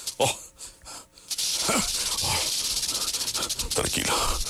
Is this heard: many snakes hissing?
yes